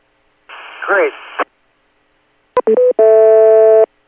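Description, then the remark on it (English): A short burst of noisy, garbled radio transmission on EchoLink with a voice in it, then a click, a quick pair of electronic repeater beeps, and a longer steady buzzy tone that cuts off. “wait for the beeps, and you got it”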